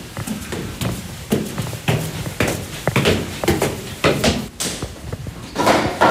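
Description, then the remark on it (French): A heavy old factory door, made in 1930 and bearing the initials of its original owner, being closed, with a series of sharp knocks, clunks and rattles spread over several seconds, fairly loud with no talking. “Ça, c'est la porte de l'usine de mon grand-père qui a été faite en 1930. Je l'ai récupérée, donc il y a ses initiales, Benet Ferdinand.”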